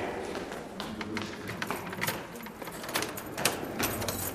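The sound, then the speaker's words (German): Keys jingle and scrape in a lock as the door to a detention cell (Karzer) is unlocked, with a run of sharp metallic clicks and rattles over a few seconds while faint voices murmur underneath. “Wow, jetzt geht die Tür gleich auf.”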